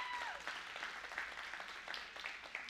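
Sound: audience applauding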